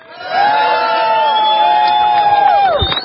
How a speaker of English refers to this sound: Thank you so much, sir, for standing up for freedom. Let's give a round of applause and a hooray for the thought criminal.